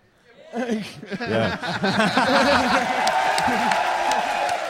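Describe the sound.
A crowd at a prize-giving for an exhibition cheers, claps and waves, starting with scattered whoops and laughter that swell into steady, sustained applause with dense crackling claps and mixed voices, loud.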